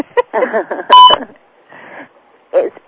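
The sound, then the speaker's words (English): A single short, loud electronic two-minute warning beep cuts in over people talking, a clear steady tone lasting a fraction of a second before the voices continue. “It was a beep.”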